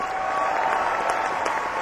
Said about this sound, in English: Doing the sarcastic clap.